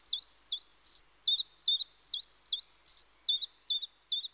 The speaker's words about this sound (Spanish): Se trata de aves que habitualmente no residen aquí y que están ahora en paso migratorio. Utilizan el territorio de Cabañeros como parada de descanso y para alimentarse hasta llegar a sus destinos finales.